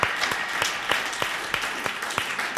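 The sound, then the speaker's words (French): An audience applauds steadily, a dense wash of many hands clapping with a few sharper claps standing out. It holds at an even, moderate level for the whole moment, with no one speaking. “C'est ça, on peut les applaudir.”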